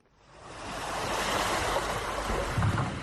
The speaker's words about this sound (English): Waves pound walls and houses constructed on the shores of Bekumu, a southern Cameroon village located in Dian, an administrative unit along parts of Cameroon's 400-kilometer coast on the Atlantic Ocean.